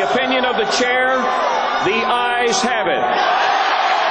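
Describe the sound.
A crowd of protesters opposing Donald Trump's nomination shouts and chants together at the party convention, loud overlapping voices rising and falling with several sharp yells breaking out above the continuous din.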